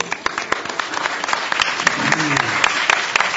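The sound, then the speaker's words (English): An audience applauds for visual artist Richard Ray Mayhew as he is introduced as a panelist, a steady patter of many hands clapping for about three seconds, even and fairly loud, with a faint voice murmuring underneath toward the end. “Mr. Mayhew, get a little clap.”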